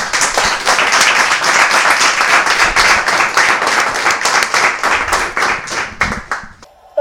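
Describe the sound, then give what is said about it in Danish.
A live audience applauds the winners, many hands clapping in a dense, sustained burst for about six seconds before it quickly tapers off. “Så det er det, vi gør, og så synes jeg lige, vi skal give en hånd til vinderne nu, hvor vi har publikum med.”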